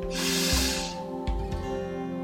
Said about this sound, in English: I'd like you to take three very deep breaths in, one after the other, inhaling through the nose and exhaling through the mouth with a loud sigh. And breathing in.